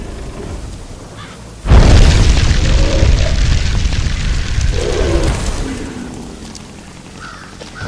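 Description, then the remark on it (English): A fireball explosion in a phone video game, cast by shaking the phone, erupts suddenly after a quiet moment, a loud booming blast with a heavy rumble that sustains for several seconds before gradually fading. “Health 100, healing potion 7, arrow 72, fireball 3. Only have 3 shots left.”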